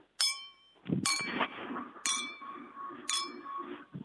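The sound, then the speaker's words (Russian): Glasses clink together four times at a steady pace, each bright, ringing chime lingering briefly, with a murmur of background chatter and movement underneath. “Это звон бокалов. Звон бокалов, молодец.”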